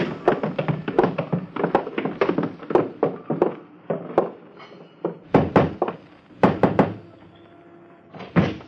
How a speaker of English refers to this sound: Hey, you're going down cellar steps, so hold on to the rail. I've got the rail.